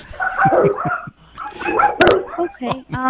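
A dog barks repeatedly, a quick irregular run of sharp barks and higher yips with a brief pause partway through, fairly loud and clear.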